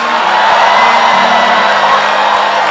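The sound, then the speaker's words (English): A large church audience cheers and shouts loudly and continuously for Jesus, a dense wall of voices with applause mixed in, sustained from start to finish without a break. “Clap your hands for Jesus. And shout for Jesus.”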